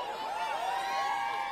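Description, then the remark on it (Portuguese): A large crowd shouts "ui" together in one sustained, steady burst, many voices overlapping into a loud, high collective cry that fills the whole moment. “Quem gostou, grita ui!”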